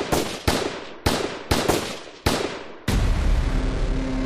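sound effect, repeated gunshots

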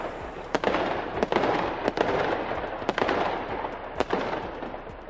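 sound effect, fireworks display exploding

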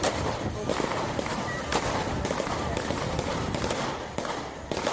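impact, gunshots

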